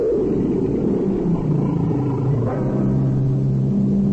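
A tiger growls in a deep, continuous rumble lasting several seconds, low and throaty with a slight rise in pitch midway. No one speaks.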